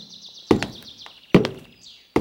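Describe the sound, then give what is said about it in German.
Three heavy, thudding footsteps of a farmer approaching his pantry land at a slow, even pace, each one loud, with a faint high-pitched whistling tone lingering in the background. “Sie fraß von jedem ein Stück ab und war so richtig satt, als sie Schritte hörte.”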